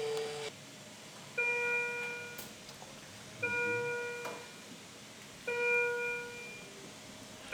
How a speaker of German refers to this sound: Viele Maschinen piepsen um einen Patienten herum, Pumpen hört und sieht man.